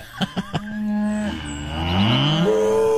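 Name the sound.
cow mooing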